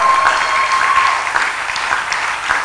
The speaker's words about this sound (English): Can I hear a clap and a shout to God's glory?